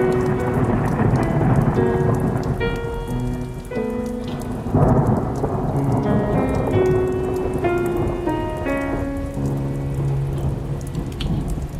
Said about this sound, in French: Il aimait les tempêtes et les orages.